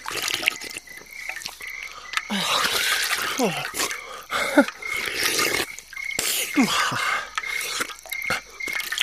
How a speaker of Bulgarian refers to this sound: Ще се освежа с глътка бистра водица. Разкош. Прави са хората, като казват, че от бистрата вода по-хубаво няма на този свят.